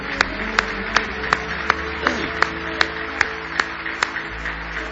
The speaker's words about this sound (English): Give Him another big hand clap of praise.